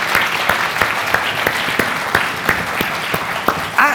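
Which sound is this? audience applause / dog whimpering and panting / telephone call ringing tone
audience applause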